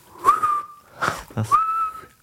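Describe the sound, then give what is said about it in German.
Fairly loud whistling made by sucking air inward: two sustained whistled notes, each sliding up and then holding steady, separated by breathy, rushing air sounds. “Ich kann so pfeifen, indem ich nicht rauspfeife, sondern reinpfeife.”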